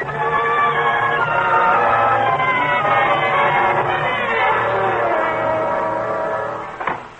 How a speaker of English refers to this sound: Merry wedding bells are ringing.